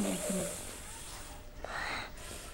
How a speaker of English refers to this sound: Oh me, a cough. A bad cough.